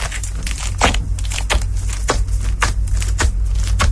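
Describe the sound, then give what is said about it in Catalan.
Wet, squelchy squishing of slime, a rapid irregular series of sticky pops and squelches over a steady low hum, fairly loud throughout, with no voices. “I aquí està matxacant ja, eh?”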